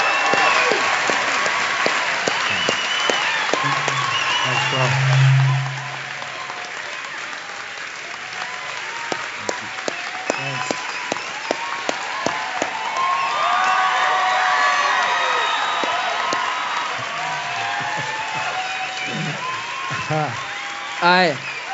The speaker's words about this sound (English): But first things first, I want like the loudest, most obnoxious, thunderous round of applause in the history of church for the one and only Randy Alcorn. Give it up! Yeah!